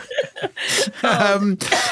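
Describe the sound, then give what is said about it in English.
Laughter breaks into a few harsh, breathy coughs, fairly loud, with voiced chuckling sounds between the short bursts. “We've worked out that when I laugh, I cough.”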